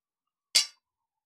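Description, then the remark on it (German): A single bright clink of glasses touching in a toast, sharp and high-pitched, ringing briefly before fading, with no voices around it. “Darauf sollten wir jetzt erstmal trinken, nämlich auf euch und die Liebe.”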